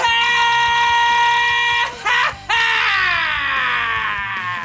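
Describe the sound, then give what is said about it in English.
A loud, sustained screaming sound effect played on the Mile High Sports Hockey Show, a live hockey radio show, with strong harmonics, breaking off briefly twice before resuming and trailing off slightly in pitch, heard on its own with no talking. “Is that not right, Mr. Scream?”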